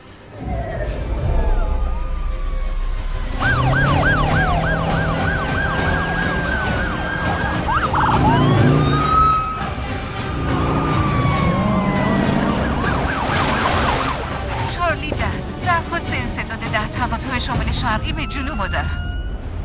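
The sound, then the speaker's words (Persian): A police siren wails in rapid, repeating up-and-down sweeps as police arrive at a bank, loud and insistent, with other sirens and traffic noise layered underneath. “پلیس ها رسیدن.”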